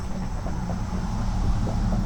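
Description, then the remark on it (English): Steady traffic noise from a road close to the gardens at Herrenhaven: a continuous low rumble of passing vehicles, fairly constant in loudness across the two seconds, with no voices. “As you hear the traffic drive by.”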